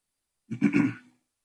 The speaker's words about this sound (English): I had a sandwich for lunch today. I think some of those little particles are causing me to cough more than normal. Don't worry, I don't have COVID.